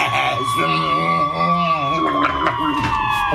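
Emergency vehicle sirens hold a steady, slightly falling wail as the vehicles pass a petrol station, sounding under people talking in the foreground.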